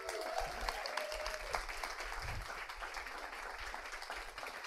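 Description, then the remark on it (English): Many people clapping steadily, a dense continuous patter of many hands that stays fairly even in loudness for several seconds with no voices standing out. “Round of applause.”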